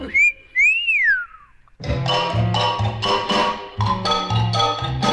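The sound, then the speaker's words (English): A person whistles a quick two-note tune, clear and fairly loud, sliding up and down in pitch. After a brief pause, upbeat instrumental music starts and carries on. “He pricked his fingers very much, which made poor Simon whistle.”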